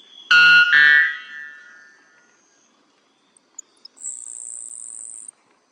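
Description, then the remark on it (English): A white bellbird, whose call is the loudest in the world at 125 decibels, calls with two very loud, piercing, metallic notes in quick succession that ring and fade, followed later by a thin, high, buzzing insect-like trill. “The white bellbird has the loudest call in the world at 125 decibels.”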